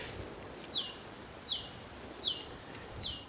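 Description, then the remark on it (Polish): A great tit sings its repeated two-note phrase, a bright high 'teacher-teacher' rhythm cycling steadily about four times, fairly clear against a soft background hiss with no talking. “Mając na przykład sikorę bogatkę, która nam śpiewa, mogę podpowiedzieć prostą rzecz.”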